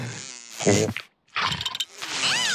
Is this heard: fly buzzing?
yes